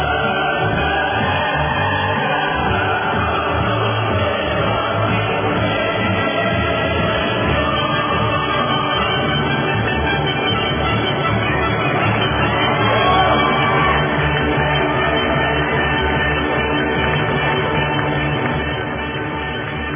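A large crowd cheers and applauds continuously for about twenty seconds, with scattered whoops and shouts rising above a loud, dense roar of clapping.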